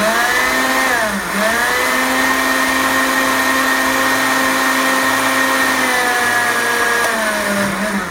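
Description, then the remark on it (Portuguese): A blender runs loudly and continuously, its motor whining steadily while grinding dry ingredients into a fine flour, the pitch dipping briefly a couple of times as the load shifts. No one speaks. “Agora eu vou bater para fazer uma farinha, bem farinha mesmo, tá?”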